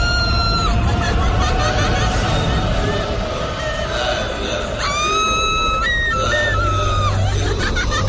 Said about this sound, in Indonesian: berteriak-teriak dan tertawa cekikikan. Matanya melotot dan sesekali lidahnya menjulur.